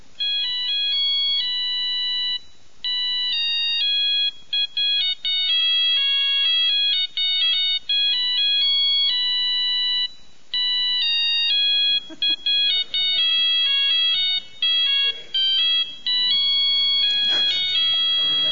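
A bright, beeping mobile phone ringtone plays a repeating electronic melody loudly and continuously for the whole stretch, with some faint background noise creeping in near the end.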